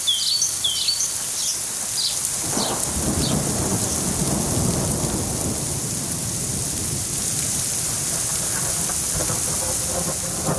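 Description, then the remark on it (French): A thunderstorm with a steady, dense hiss of hail pelting down on roofs, a deep roll of thunder swelling through the middle, and a few birds chirping faintly near the start. “J'apporte aussi avec moi l'orage et la grêle sur les toits”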